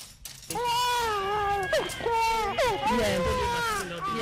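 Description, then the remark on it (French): A three-month-old baby cries loudly and continuously at the Messassi hospital in Yaoundé, in long wavering wails with brief catches of breath between them, the sobbing rising and falling in pitch without pause. “…, âgée de 3 mois, pleure à l'hôpital de Messassi, à Yaoundé.”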